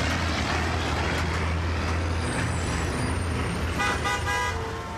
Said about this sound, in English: car alarms should be banned in densely populated and already noisy neighborhoods.